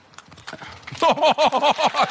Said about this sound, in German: Guck mal, hörst du das Klatschen der zarten Frauenhände? Ja, wirklich.